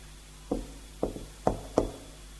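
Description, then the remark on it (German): Four dull knocks on a door in an attic in an uneven pattern, a slower pair followed by two quicker raps, an agreed signal. Moderately loud, with no voices. “Ich klopf unser Zeichen.”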